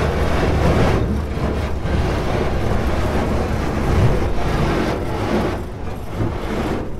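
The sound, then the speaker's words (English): A heavy long-arm excavator's engine rumbles steadily while its long arm grinds and crunches through river ice on the Buffalo River, breaking up ice jams at bridges. It is a loud, dense wash of noise with rough surges and no voices. “The sounds of ice being blasted apart along the Buffalo River as ice jams again threaten.”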